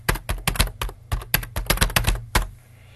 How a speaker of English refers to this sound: typing it into the chat.